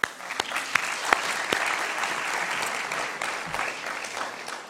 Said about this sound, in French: Oui, vous pouvez les applaudir.